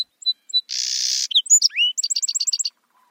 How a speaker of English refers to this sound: Researchers found that in song sparrow populations where birds had similar songs, birds were more likely to survive and hold on to their breeding territories.